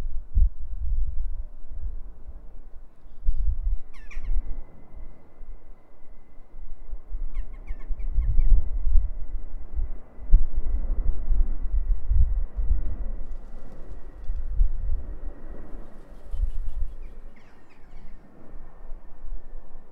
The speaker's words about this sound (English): Just go quiet for the background noise and some wildlife and some birds. So have a listen to the sound of the outdoors.